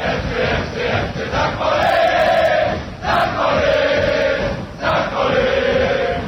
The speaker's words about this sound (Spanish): es la manera en la que sus gradas gritan São Paulo. Lo hacen con una manera melódica, acentuando la I al final.